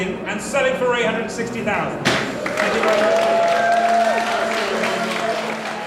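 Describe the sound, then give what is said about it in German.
An auctioneer's hammer comes down with a single sharp, loud knock in an auction house sale room, cutting off a voice speaking and closing the sale of an artwork at 860,000 pounds; a burst of applause and crowd noise swells immediately afterward. “Und endlich fällt der Hammer.”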